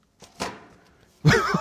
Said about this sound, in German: hat richtig gestaubt beim Hinlegen. Ich hab mal den Knall gehört, da ist ordentlich Staub rausgekommen.